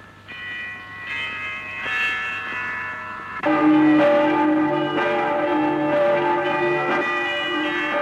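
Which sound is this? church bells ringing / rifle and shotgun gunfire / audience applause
church bells ringing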